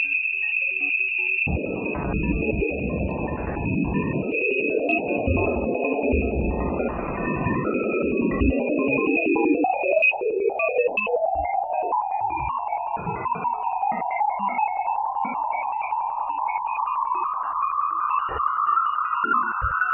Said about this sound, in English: Here's what they got when they were pointing the microphone at the moon of Jupiter.